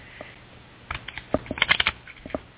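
A deck of cards being shuffled, a quick flurry of crisp, papery riffling clicks in irregular bursts, with no voices.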